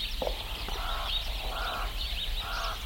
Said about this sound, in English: Birds greet the day in the small rural town of Newitzville.